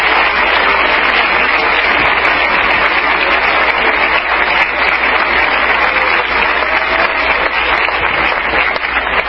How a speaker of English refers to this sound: Come on, clap your hands.